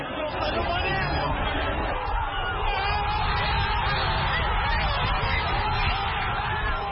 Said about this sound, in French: Une clameur assourdissante après deux heures de silence et de stress pendant une finale très fermée contre les Pharaons.